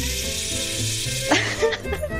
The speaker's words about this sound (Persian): بعد من صدای شرشر آب بیارم.